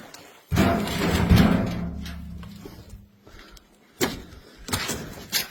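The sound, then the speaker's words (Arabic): The door leading onto the veranda scrapes open with a low, grinding rumble lasting a couple of seconds, followed after a pause by two sharp bangs as it swings shut. No one speaks. “هنا الباب الداخل على البرند اليمين استقبال الضيوف”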